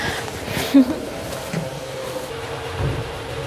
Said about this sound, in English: Wow, what a loud door. Wow, that sounded cool.